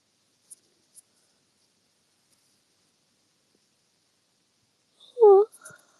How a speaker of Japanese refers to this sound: 首が。あくびが止まらんのよ。